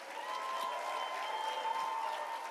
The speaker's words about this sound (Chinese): 我们下一代很棒吧，哦，整个全英文的，哦，还给我们的这些 junior pastor 拍手吧。